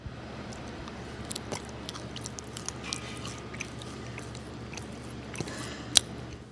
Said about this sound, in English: That chewing is obviously going to combine saliva into the bread. Saliva is body temperature, so it's warmer than room temperature. So as you're warming the bread, it's going to become more flavorful.